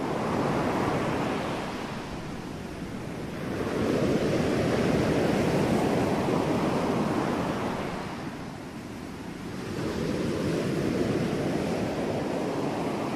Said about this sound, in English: it's so calm here. I could stay here forever. Just listen to those ocean waves.